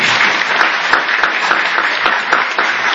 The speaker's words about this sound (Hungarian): Azt még azért hadd kérjem, hogy álljanak fel azok, akik Muraszombatból jöttek. Igen, egy tapsot adjunk nekik.